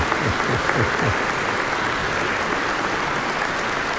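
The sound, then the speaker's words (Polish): An audience gives steady, dense applause at the mention of Father Tadeusz Rydzyk of Radio Maryja. A broad wash of many hands claps at even loudness for the whole stretch, with no voices on top. “No i oczywiście tu od razu brawa same idą.”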